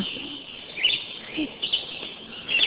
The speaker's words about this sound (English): There's a red-eyed vireo behind me. They're really common.